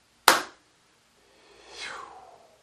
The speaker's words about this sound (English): I'm going to count to three and then clap. You're welcome to clap with me to seal the work if you wish. One, two, three.